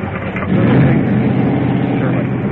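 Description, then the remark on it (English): An ambulance engine rumbles steadily with a low, heavy drone, rising slightly as it revs to pull away on a street with a patient on board, continuous for the whole stretch with no talking. “Ambulance taking off.”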